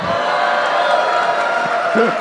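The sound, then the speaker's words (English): A large Boston crowd cheers and hollers in a loud, sustained roar that holds steady for about two seconds, with a mass of overlapping voices blending into a dense wash of noise. “I just wanted to do that just to get that Boston crowd.”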